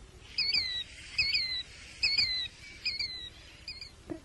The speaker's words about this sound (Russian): До свидания, птица крикливый Зуёк.